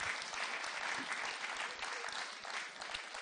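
Steady audience applause fills the whole stretch, a dense crackle of many hands clapping at an even, sustained level with no voices standing out.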